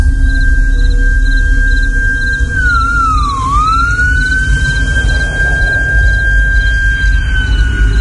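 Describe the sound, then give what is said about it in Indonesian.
An ambulance siren holds a long, steady high wail that swoops briefly down in pitch and climbs back, over a constant heavy low rumble. The level stays fairly even throughout. “Iya, suara sirene ambulan itu semakin lama suaranya terdengar semakin keras.”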